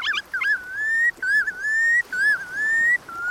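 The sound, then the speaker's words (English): Red knot, a chunky shorebird no bigger than a robin, calls: a series of about four clear, slurred whistles, each a sustained wavering note, repeated back to back with no talking. “The redknot is a chunky shorebird no bigger than a robin with one of the longest migrations in the animal kingdom.”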